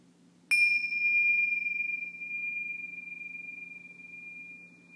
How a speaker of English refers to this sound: And at the ringing of the bells, just open to the breath.